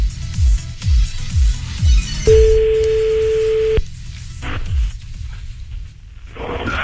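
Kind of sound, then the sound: signal or alarm, phone ringing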